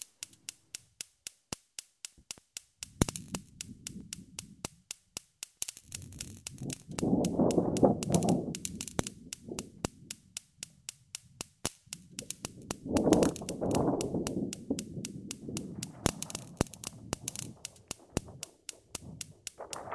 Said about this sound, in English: Domestic Weather Experiment 21. Lightning created using insecticutor and gas cooker ignition.